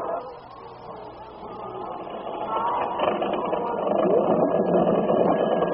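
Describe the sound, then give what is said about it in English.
A car engine runs unevenly, sputtering and rumbling steadily for several seconds, growing slightly louder toward the end, with no voices over it. “Spluttering, huh? That sounds like a dirty carburetor.”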